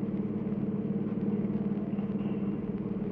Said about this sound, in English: I got hold of a car, see, and I was driving down 6th Avenue over near Radio City.